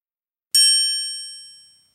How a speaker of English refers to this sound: Other dancers weaved around. Bells jingled.